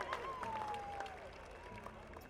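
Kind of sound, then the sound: crowd, round of applause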